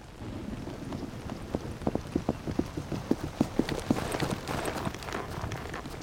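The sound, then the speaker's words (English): Horses' hooves clip-clop in a steady, even rhythm as riders ride quietly over to the side of a fortress, growing clearer in the middle, over a constant rain-like hiss. No one speaks. “All right, let's ride over to the side of the fortress quietly and hide the horses behind that bush.”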